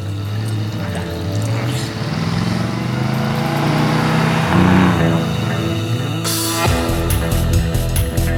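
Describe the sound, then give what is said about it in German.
A car engine runs loud, its pitch climbing as it accelerates away as the driver sets off toward Reno, then the sound shifts abruptly to a rougher, noisier texture near the end. “Ich fahr schon mal los.”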